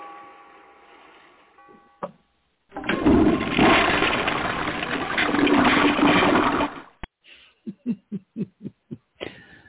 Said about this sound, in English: Okay. I got a pre-flush. Hang on a second. What? I got pre-flushed. What was that about? Well, that's just the water sound effects.